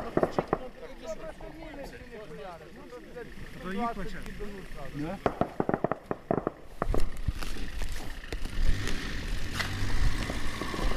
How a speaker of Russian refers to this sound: Над головами снова засвистели пули, и мы залегли у пакетов и коробок.